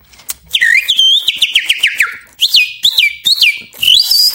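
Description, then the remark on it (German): A person standing in front of a shop whistles bird-like chirps toward trees where a woman walks small dogs: a quick series of sliding, warbling tones with rapid trills, loud, imitating songbirds for a few seconds with brief pauses between phrases. “Und wenn ich da vor dem Geschäft stehe, wenn die ältere Frau mit diesen kleinen Hunden spazieren unter diesen Bäumen, bin ich auf der Gegenseite und ich zwitschere da wie Vögel.”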